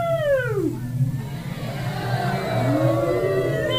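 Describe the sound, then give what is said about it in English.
A person imitates whale speech with long, warbling whale-like calls: a downward-sliding moan first, then slower rising and falling wails, fairly loud over a steady low hum. “I can speak whale.”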